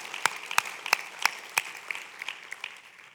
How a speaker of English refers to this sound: Come on, let's cheer one more time. All those being baptized today.